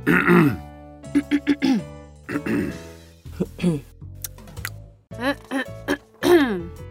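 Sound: repeated throat clearing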